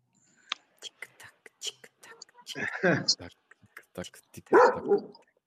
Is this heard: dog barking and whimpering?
yes